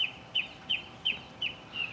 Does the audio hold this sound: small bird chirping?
yes